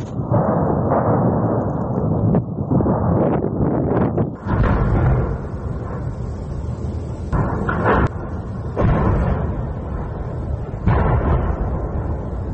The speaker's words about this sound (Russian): Очевидцы из Бердянска писали, что попадание также было в цистерны с топливом и склад боеприпасов. На видео слышны многочисленные взрывы.